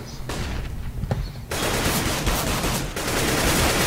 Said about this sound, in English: So, lots of gunfire. That's not the SWAT team. That's the game.